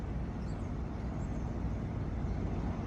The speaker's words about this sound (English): That truck over there, one of the came off.